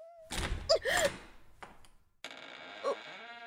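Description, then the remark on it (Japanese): A heavy door opens with a loud thunk and rattle, then a sustained, grinding creak drags on as it swings wide. “扉が開いた”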